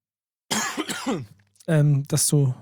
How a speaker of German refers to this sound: Ja, da irgendwie will mein Husten auch nicht weniger werden.